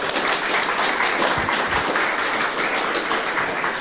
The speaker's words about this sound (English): So thank you very much for that, and a big round of applause for those folks.